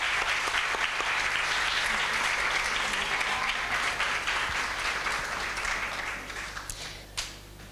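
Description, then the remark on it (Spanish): Sustained applause from a large audience for six candidates at the gala electing the senior queen of the Santísimo Cristo de los Dolores 2024 festivities, dense crackling claps at steady loudness for several seconds, then thinning out and fading toward the end with a few last scattered claps. “De nuevo, un aplauso grande para las seis.”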